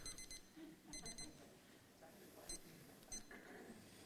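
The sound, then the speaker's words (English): A digital timer, kept up front by a speaker to track how long they talk, beeps in quick high-pitched bursts of three, then single chirps a little later, fairly faint over a murmuring background. “Keep a timer up here to know if I've gone too long for you.”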